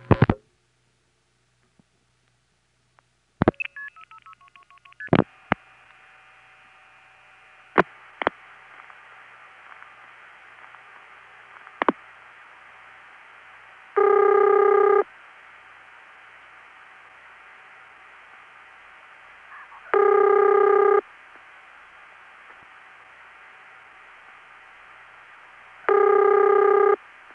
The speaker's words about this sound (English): Well, that's not one of the Bell system rings, so it's independent. That's actually a fairly common ring called Kenley ring. That is my locally recorded example. The pitch is slightly different, but it's the same type.